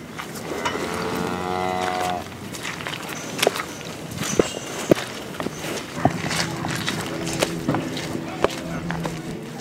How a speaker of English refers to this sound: Product of the hundreds of cows to our right.